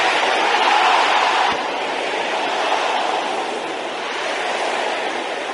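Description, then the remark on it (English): An audience of brothers and sisters shouting a prayer together, "By the power in the blood of Jesus, I chase every infirmity out of my body": a loud, steady roar of many voices blending into a continuous wash with no single words standing out, swelling slightly at first and then holding level. “Can I hear the brothers shouting the same thing?”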